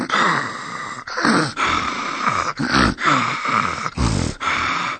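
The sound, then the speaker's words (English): A voice imitates loud snoring, with a series of rough, breathy snorts and groaning inhales repeating in quick succession, with no other sounds around it. “Amy snored.”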